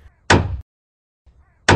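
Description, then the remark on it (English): Two loud, sharp hammer thwacks land about a second and a half apart, each a broad cracking hit with a short ringing tail, with a faint low rumble before each one. “Which of these hammer thwacks went wrong?”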